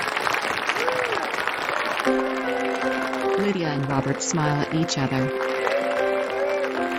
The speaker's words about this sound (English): The audience applauds the cast.